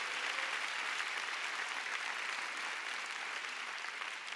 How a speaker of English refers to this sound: Oh, come on, give the Lord a big clap.